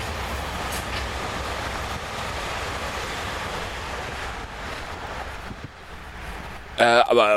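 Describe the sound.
A subway train roars past, a steady loud rumbling clatter for about seven seconds before cutting off, followed by a brief burst of voice at the very end.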